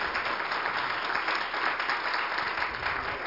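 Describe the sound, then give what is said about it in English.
Steady audience applause after singing fills the space, many hands clapping in a dense, continuous wash that stays loud and even throughout, with no voices rising above it. “Would you give them another hand clap?”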